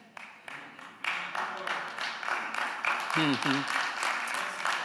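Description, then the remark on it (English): An audience breaks into clapping, starting light and quickly swelling into steady, dense applause that holds to the end, with a brief voice calling out over it partway through. “I know some of you are like, what are they clapping for?”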